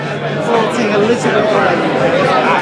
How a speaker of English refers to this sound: There's a cheer going up. There's a cheers going up. Let's just see.